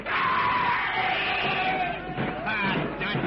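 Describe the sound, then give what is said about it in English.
A horde of many voices screams and yells together in a loud, continuous roar, with high wavering cries rising above the din for the whole few seconds as they charge furiously from all sides of a clearing. “Suddenly, from all sides of the clearing, a screaming horde of crazed blacks charges furiously”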